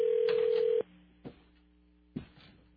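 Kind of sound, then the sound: signal or alarm, telephone line ringing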